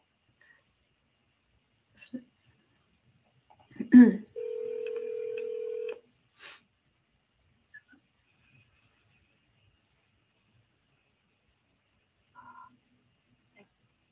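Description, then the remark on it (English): A steady electronic phone tone sounds for under two seconds, right after a brief thump, with a few scattered clicks around it and a short, faint beep near the end; otherwise quiet. “This is my phone.”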